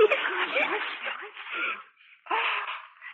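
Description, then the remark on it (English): Wrapping paper is torn off a birthday gift in long, rough rips, with a brief pause before another burst of ripping. Voices murmur faintly underneath. “Take the paper off, Mommy.”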